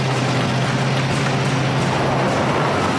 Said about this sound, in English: And here comes the truck.